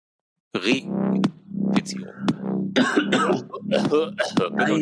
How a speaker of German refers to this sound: Oh, er hustet wieder.